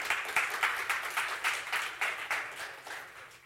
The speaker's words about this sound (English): You can clap about it. Clap. Go ahead. That's good.